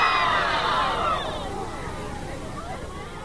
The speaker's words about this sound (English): Falls to Kennedy to talk to them. We'll hear the gasp right now as he addresses the crowd from the back of a flatbed truck. And that is that Martin Luther King was shot and was killed tonight in Memphis, Tennessee.